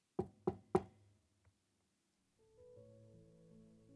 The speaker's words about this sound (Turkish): Eliyle hemen cebini yoklamış ve tekrar çalmış kapıyı.